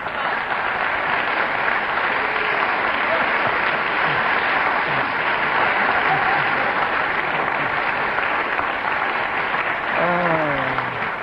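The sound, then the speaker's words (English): A studio audience bursts into sustained, dense applause that holds steady for several seconds, with a few scattered voices calling out near the end, after the whistle ends Derek Nimmo's speech about a pension for Kenneth Williams. “So Derek Nimmo speaking, the whistle went, got the point, and a round of applause, because they all want Kenneth to have his pension.”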